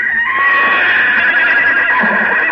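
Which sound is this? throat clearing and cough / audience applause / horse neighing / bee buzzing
horse neighing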